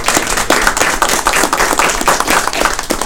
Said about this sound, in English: And I am proud to work alongside every one of them. So I think they deserve a round of applause.